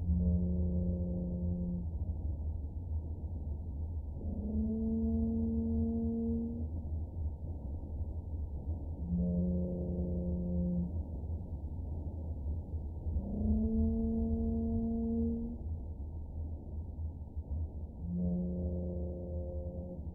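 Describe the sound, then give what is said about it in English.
Whale song recorded on the ocean floor offshore East Cape: deep, steady moaning calls in two alternating patterns, repeated about every four to five seconds, over a continuous low rumbling of earthquakes underneath. “So we're hearing earthquakes rumbling away. And whale song. over the top of those earthquakes.”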